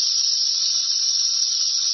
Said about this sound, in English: And it is present whenever the sun is up. It is the sound of the 17-year cicada infestation, predicted by the Bible, I think. Yes, the locusts are here.